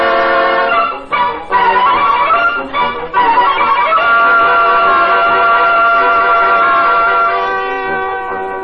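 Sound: subway train running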